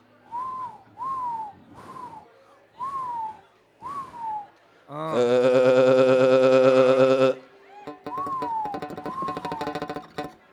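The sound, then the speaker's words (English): A person imitates a groundhog's whistle with five short, falling whistles in quick succession, then a loud, harsh buzzing burst, followed by two more downward whistles. “He said he'd walk around and go, and then they'd go.”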